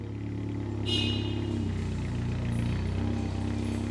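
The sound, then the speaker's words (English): A Zamboni ice resurfacing machine at an ice rink, driven by an ice technician, runs with a steady, low engine drone and rumbling harmonics, a brief high whine rising near the start, then holding an even, continuous tone with no talking. “I am an operations and ice technician. I drive the Zamboni primarily.”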